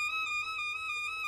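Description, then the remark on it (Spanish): A bright, sustained instrumental tone slowly wavers back and forth between two closely neighboring pitches, a slowed-down musical trill with a steady, even level and no voices. “Es decir, tocas una nota y la siguiente, y muy rápido... tienes este efecto como de trino de pájaros”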